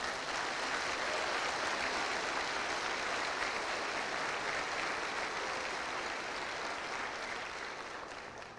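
audience applauding

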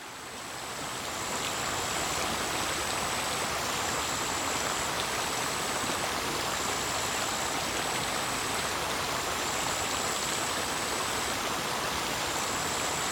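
flowing river water

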